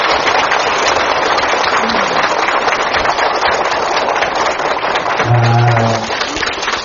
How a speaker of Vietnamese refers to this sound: Cho xin đạo tràng chúng con kính dâng lên thượng tòa một tràng pháo tay thật là dài.